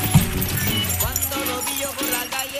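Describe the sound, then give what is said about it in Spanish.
A bunch of keys jangles and clinks in quick, irregular bursts of metallic rattling as someone tries keys in the padlock on the gate of a shop, with a voice murmuring underneath. “Con todas esas llaves ahí tenemos que ver con cuál vamos a abrir el local.”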